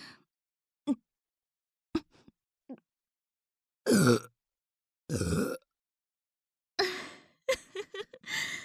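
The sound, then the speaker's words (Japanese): A few faint mouth clicks, then two loud burps in a row after swallowing semen, followed by a rougher run of shorter belches and throaty sounds near the end, with no talking. “あなたのザーメンがあまりにも濃いものですから、はしたなくゲップをしてしまいました。”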